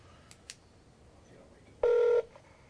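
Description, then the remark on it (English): A single loud telephone keypad tone sounds for under half a second, steady, after a couple of faint clicks in an otherwise quiet background, as a phone number is dialed to test an emergency line that routes to Oregon 911 dispatch. “It's going to send you to dispatch. It's going to go to Oregon Dispatch.”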